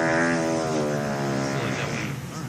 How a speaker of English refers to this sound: I just need a fart on him. A wet one, please. Okay, wet one. Let's see. There you go.